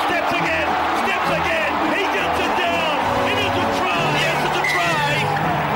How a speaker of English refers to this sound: And the crowd's starting to go wild.